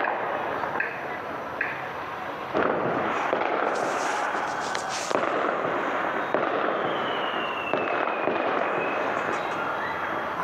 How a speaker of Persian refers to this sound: صدای تیراندازی در سیرجان استان کرمان.